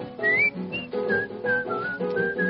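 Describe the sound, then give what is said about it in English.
Someone whistles a bright, bouncy tune in a string of short, clear notes that step up and down, with a warm accompaniment sounding steadily underneath. “Light up, get smart, tune up, and start to whistle while you work.”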